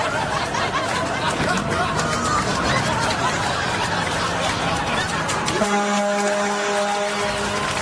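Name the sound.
truck horn honking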